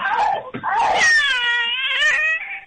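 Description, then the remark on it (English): A male cat lets out a loud, drawn-out meow, starting with a short chirp and rising into a long wavering yowl, with no talking over it. “My one cat can kind of meow pretty loud.”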